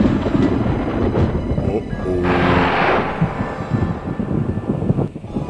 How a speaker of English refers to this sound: Scared of what? A little harmless thunder?